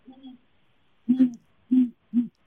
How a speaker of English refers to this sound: He definitely is interested in that. The call he just gave is a perfect example of a great horned owl call and what people can typically hear around their houses.